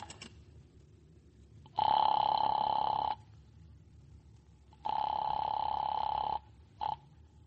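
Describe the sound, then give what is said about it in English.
A telephone rings twice in long, steady buzzing bursts with a pause between, then a brief third ring is cut short as a man phones an express shipping company about his trunk; fairly loud, with no talking. “Use the phone. Yeah, that's right. I'll use the telephone.”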